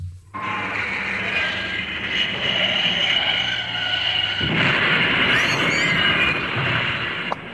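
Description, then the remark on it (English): A sound effect of an oncoming tractor: a loud, steady engine roar with a low droning rumble runs unbroken for several seconds, swelling slightly partway through. No one speaks. “straight into the path of an oncoming tractor. Shall see if I've got that sound effect.”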